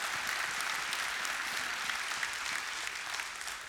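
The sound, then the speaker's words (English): A crowd applauds steadily for a few seconds, many hands clapping in a dense, even patter that holds at a constant level throughout and eases off only slightly at the end. “If you can clap for that.”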